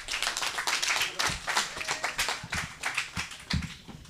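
An audience applauds to welcome the next talk, a mini panel on polyamory and technology: a dense patter of many hands clapping at a steady level for several seconds with a few sharper individual claps standing out near the end.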